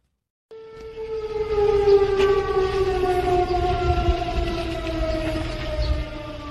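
A loud, sustained air raid siren wails steadily after a brief silence, its harmonic tone slowly falling in pitch with a rumbling outdoor background; sirens sounding across Israel early in the morning to prepare the public as Israel made a preemptive strike on Iran.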